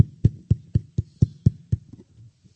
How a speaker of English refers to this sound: Somebody was knocking on my door.